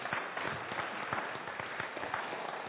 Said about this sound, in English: Round of applause for this young man.